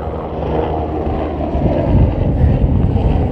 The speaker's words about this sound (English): Oh, here comes the chopper. Another one returning down mountain.